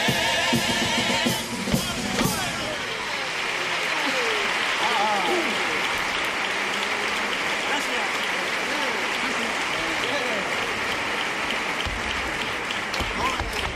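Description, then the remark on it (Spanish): Sustained, loud applause from a large audience after a carnival comparsa group sings its couplets and chorus, a dense wash of clapping with a few sharp claps standing out near the start and faint voices mixed into the crowd. “Bueno, tanda de cuplés y estribillo muy aplaudido.”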